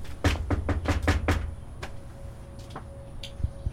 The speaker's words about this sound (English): We don't hear back from her, so again we knock on her door.